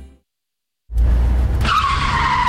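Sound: car tires skidding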